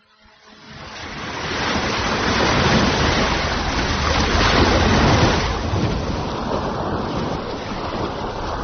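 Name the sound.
ocean waves and surf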